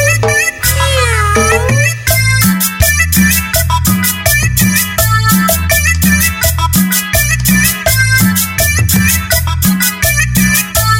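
Cat-like meows with sliding pitch open the track, then a loud, steady dance beat with heavy bass and crisp percussion carries on for the rest, with more meow-like tones woven into the music.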